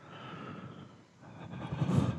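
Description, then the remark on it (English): A voice imitates heavy, noisy breathing on a dead-silent phone call, two long airy breaths in a row, the second swelling louder and rougher toward the end, with no words. “I have experienced this problem, and the way I get it is not with mobile data, it's with calls being dead silent. And then there's just the sound of breathing.”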